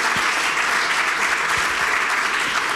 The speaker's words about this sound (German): Deswegen jetzt ein herzlicher Applaus